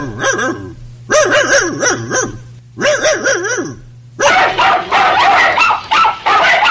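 A dog barks and yelps in three quick bursts of high, whiny barks, followed by a denser, rougher stretch of continuous barking. No one speaks.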